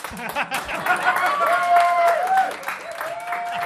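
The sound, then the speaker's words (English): Light, scattered applause from a small audience, steady claps for several seconds, with a brief tonal whistle-like sound drifting over the middle. “One person applauding.”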